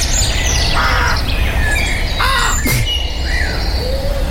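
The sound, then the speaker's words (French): Several crows caw and squawk back and forth in a forest in the Bern region, their harsh calls loud, with smaller birds chirping faintly behind a steady outdoor background. “Ah, les corbeaux, ils sont d'un cœur joie, là.”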